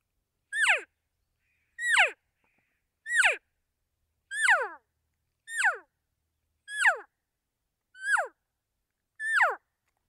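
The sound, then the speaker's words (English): Eight evenly spaced cow elk calls, imitated by a person shaping the letters E-O with the lips, each a short, high, nasal mew sliding sharply downward in pitch, with brief silences between and no talking. “Adds just a little bit more realism, a little bit more of a nasally sound that a cow elk's going to produce.”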